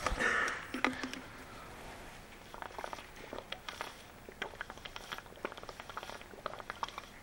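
A person drinks water: a brief rustle, then a quiet, irregular run of small sips, swallows and wet mouth clicks, with no one talking.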